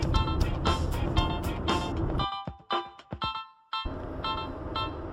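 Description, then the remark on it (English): A car drives fast on a highway, its engine roaring loudly and steadily with heavy low rumble, cutting out abruptly for about a second amid sharp tonal bursts, then resuming at full drive. “Oh, person in that Hyundai Accent who's talking on a recorder while he's driving really fast.”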